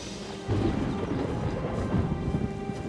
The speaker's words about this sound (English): It's raining. Find shelter.